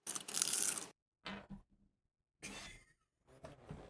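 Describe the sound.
Crunching, munching noises come in a few bursts: a loud, harsh crackle first, then shorter, softer crunches separated by silent pauses.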